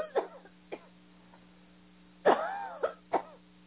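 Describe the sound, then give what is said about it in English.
Several people give harsh coughs and throat-clearing bursts during a deliverance prayer, after being told to cough. The coughs come at irregular intervals: a lighter pair early on, then a louder cluster of three near the end, over a steady low electrical hum. “Now take a deep breath and let him just cough them out as he burns them out.”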